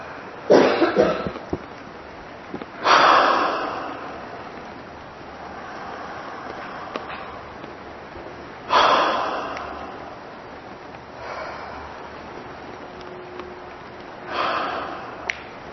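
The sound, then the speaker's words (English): Sharp, forceful, uncontrolled exhales in a breathing exercise burst out about five times at irregular intervals, each a loud breathy whoosh that quickly fades, with quiet room tone between them and no talking. “Snapping the exhale loose, not controlling the exhale, dumping the exhale out, setting the exhale free.”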